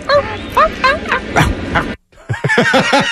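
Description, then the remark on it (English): A person imitates a dog, letting out a rapid string of loud barks and yips, pausing briefly before another quick burst of barking, recreating Yankees player Verdugo's bark dog routine in the seventh inning of a Yankees game broadcast. “barking in the seventh inning”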